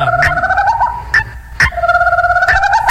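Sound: guinea fowl call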